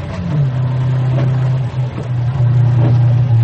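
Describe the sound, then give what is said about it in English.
A sports car with a hood drives, its engine droning steadily at a low pitch, dipping briefly midway before picking back up and holding its loud, continuous hum; no one speaks. “He drove. Just drove. It was a sports car with a hood, dead drafty.”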